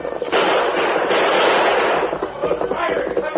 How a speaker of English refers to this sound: Blackie and Hex turned and urged their horses into a gallop up the opposite slope, while El Diablo held back to exchange more shots with the oncoming masked man and Indian.